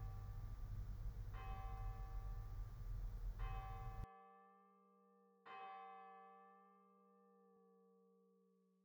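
bell ringing

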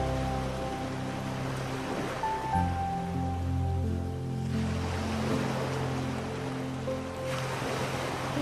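sea waves

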